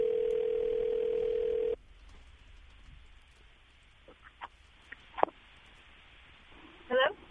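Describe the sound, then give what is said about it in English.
An outgoing phone call's ringing tone: one steady, clear tone lasts under two seconds and cuts off, followed by faint line hiss and a few soft clicks. “Let's see if she answers the phone.”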